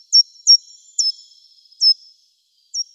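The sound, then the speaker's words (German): A small tree-climbing songbird, which moves up tree trunks and searches bark crevices of deciduous trees for food, gives five short, high-pitched calls at uneven intervals, each a sharp clear note followed by a brief thin trail, alone with no talking. “ein Vogel, wenn man ihn dann in der Hand hat, ja doch irgendwie nochmal ganz anders aussieht, als wenn man ihn so in seiner natürlichen Umgebung erlebt, wo er natürlich auch Lautäußerungen von sich gibt, wie zum Beispiel diese hier.”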